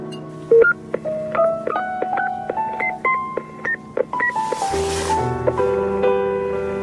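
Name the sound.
telephone number being dialed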